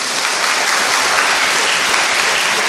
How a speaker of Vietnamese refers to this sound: Tiếng vỗ tay của các bạn là còn hơn tất cả những bông hoa hay những món quà, bởi vì nó thể hiện một tinh thần của sức trẻ, nó thể hiện cái lý tưởng của thanh niên thời đại mới là trẻ, khỏe và ủng hộ nhiệt tình.